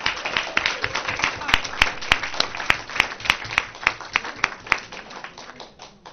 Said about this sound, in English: All right, a big round of applause for everybody.